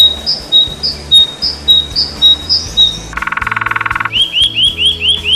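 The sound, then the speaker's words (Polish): Repeated bright, high bird chirps ring out in a steady series, broken midway by a second-long buzzy rattling trill, then quick rising tweets resume, all clear with no voices. “No to już chyba wiecie, o czym dzisiaj będziemy rozmawiać. O ptakach.”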